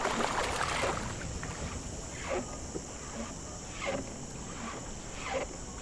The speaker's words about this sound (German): Die Silhouette eines Kanus schält sich aus der Nacht. Ich drücke dem Fährmann eine Münze in die Hand. Dann legen wir ab. Mit ruhigen Bewegungen teilt das Ruder das Wasser.